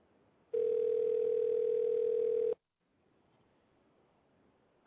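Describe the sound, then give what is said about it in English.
A telephone call ringing as a call is placed during a live radio broadcast: one steady, mid-pitched electronic tone holds loudly for about two seconds, then cuts off into a quiet line hiss as the call waits to be answered. “I'm just going to give Mingo a call, see if he's there.”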